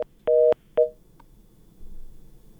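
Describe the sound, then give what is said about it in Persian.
Short electronic telephone tones over a faint line hiss: a brief beep, a longer steady dual tone, then another short beep, as a listener's call to a Radio Azadi call-in program is cut off. “بله، تماس شنونده ما هم قطع شد.”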